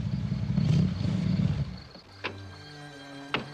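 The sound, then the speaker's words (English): A roadster's engine rumbles heavily for a couple of seconds as it pulls up to a mansion at night, then settles into a low idle hum broken by two sharp metallic clicks. No one speaks. “At night, Sam pulls up to the mansion in his roadster.”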